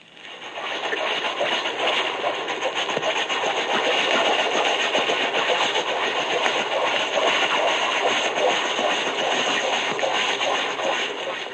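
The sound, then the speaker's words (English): A steady underwater rush of propeller noise from an American S-boat submarine built about 1920, running at periscope depth at 3 knots, 500 yards away: a dense continuous swish with faint rhythmic beating, holding even and fairly loud throughout with no voices. “In the following example, you will hear an American S-boat, built about 1920, running at periscope depth.”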